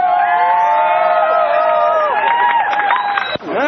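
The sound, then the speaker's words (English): A large crowd from the community of the Mission Neighborhood Resource Center cheers and whoops steadily, many voices overlapping with scattered clapping, the noise holding strong for over three seconds before cutting off abruptly. “Let's give an applause to the Mission!”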